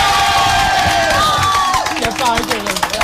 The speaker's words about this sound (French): Soyez les bienvenus, l'équipe d'un si grand soleil, applaudissements.